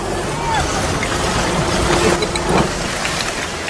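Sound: garbage truck collecting trash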